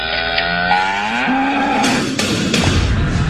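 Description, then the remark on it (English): A cow lets out one long, loud moo that rises in pitch and holds steady, with no voices, while a couple of sharp knocks sound partway through. “It's Cow.”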